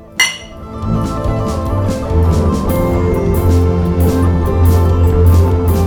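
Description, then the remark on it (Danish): A single bright clink of glasses of bottled wheat beer touching in a toast rings out near the start, clear, then fades into a steady, humming tonal background that carries on to the end. “Så øllen, der kommer ud af flasken, den er okay. Det er den. Skål. Skål.”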